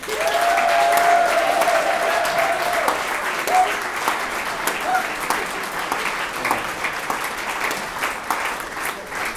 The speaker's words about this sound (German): Also das ist wirklich verschärft, was die hier abliefern müssen. Das ist ein riesigen Applaus wert.